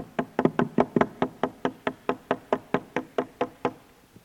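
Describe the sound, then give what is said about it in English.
Hammering on a roof: around seventeen sharp, evenly spaced blows in a brisk, steady rhythm, each a hard percussive thud that fades quickly, with no voices. “Somebody start hammering on the roof.”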